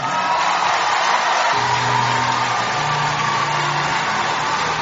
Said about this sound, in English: You're welcome, ma. Please, let's keep clapping. Come on, Koinonia.